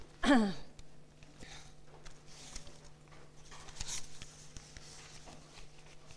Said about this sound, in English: Just let me get all my pieces of paper.